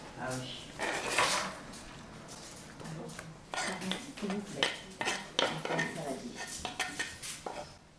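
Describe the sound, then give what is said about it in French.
A salad bowl is pulled out and set down amid repeated clinking of dishes and cutlery, with scattered clattering knocks, moderately loud, no clear speech. “Tu peux me sortir un saladier, s'il te plaît ?”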